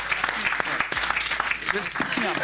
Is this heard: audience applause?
yes